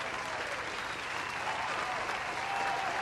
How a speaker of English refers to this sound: That's right, listener. Yes. And thank you for the applause.